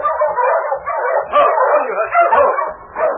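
A sled dog team barks and yips excitedly all at once as it draws up and stops on the main street of 40 Mile at night in light snowfall, a dense, overlapping chorus that stays loud for a few seconds with no pause.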